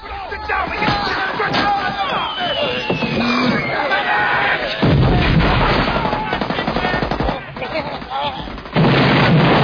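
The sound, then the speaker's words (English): Loud battlefield explosions in a war film, filmed by a stuntman running with the soldiers, boom amid chaotic gunfire and shouting voices, with two heavy blasts hitting midway and near the end, each leaving a dense rumbling roar. “That explosion there was one that the stuntman filmed, you know, with the IMO.”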